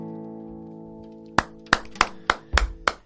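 A single woman, alone in a bar, claps six times in a slow, steady rhythm, each clap sharp and fairly loud, over a fading sustained musical tone.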